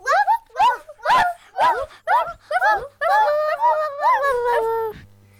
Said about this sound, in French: Mais le chien refuse et continue de japper et de aboyer.